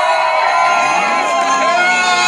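A loud crowd at a Birds Aren't Real rally in Springfield, Missouri, cheering and shouting together, a dense wall of many overlapping voices with whoops rising over the roar, sustained without pause.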